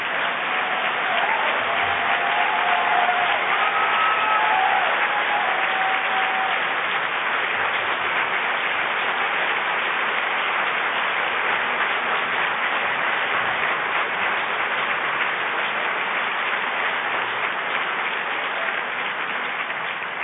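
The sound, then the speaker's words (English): Sustained applause from a large audience for a guest and her daughter and for the faith-based group The Next Door, dense and steady at a fairly loud level, with a few faint whistles or cheers near the start and no speech over it. “but you're also applauding for those compassionate souls at The Next Door.”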